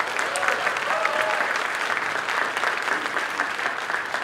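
An audience at a Thai stand-up comedy show bursts into sustained applause and cheering for the event organizer and team, a dense steady wash of clapping with a few shouts mixed in, holding at a fairly loud, even level for several seconds.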